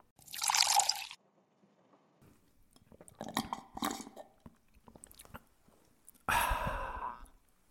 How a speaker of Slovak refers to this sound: Na úvod sa posilnite virtuálnym dúškom našej liečivej minerálnej vody.